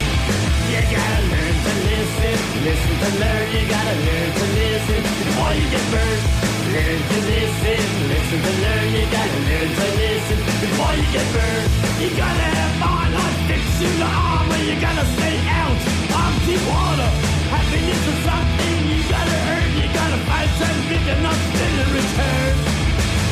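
A loud, dense rock song plays throughout, with fast, steady drums, a thick wall of distorted guitar and shouted vocals, keeping an even, driving intensity for the whole stretch.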